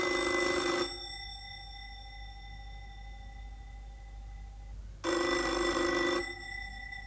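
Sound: telephone bell ringing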